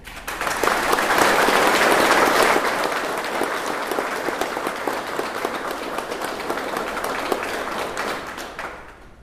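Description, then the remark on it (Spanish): A crowd bursts into sustained applause welcoming the delegation of the Zapatista Army of National Liberation (EZLN) travelling to Europe, many hands clapping in a dense, steady wash that swells loudest in the first few seconds, then holds slightly softer before tapering off at the end. “Démonos un aplauso a los compañeros y compañeras.”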